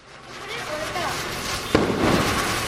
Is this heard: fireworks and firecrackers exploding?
yes